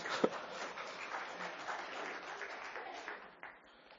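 An audience claps for a volunteer as he returns to his seat, a steady, dense wash of applause. It holds for several seconds, then thins and tapers off near the end.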